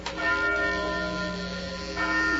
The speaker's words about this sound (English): Bill, look up through that belfry. That bell's ringing. But there ain't nobody down here pulling the bell rope.